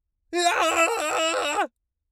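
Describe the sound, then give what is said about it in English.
A man lets out one loud, sustained yell lasting just over a second into a TLM-102 microphone in a sound-treated whisper room, recorded through a Focusrite Scarlett Solo interface with the gain at about 12 o'clock, with silence before and after. “Here's what it sounds like when I'm yelling with the gain at about 12 o'clock!”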